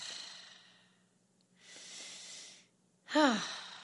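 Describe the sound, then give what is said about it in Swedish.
Audible breathing: a long breath, a deep inhale, then a heavy exhale ending in a voiced sigh. No talking, just slow, deliberate breaths. “Andas in, andas ut.”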